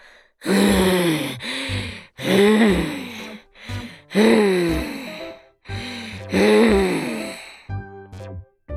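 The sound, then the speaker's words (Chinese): Heavy monster breathing: four loud, slow, rhythmic breaths with a raspy, groaning rumble, each followed by a short huff, with no talking. “壮壮刚说完，就听到一阵重重的呼吸声。”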